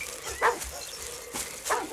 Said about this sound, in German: Ich glaube, das Bellen kommt aus dieser Richtung.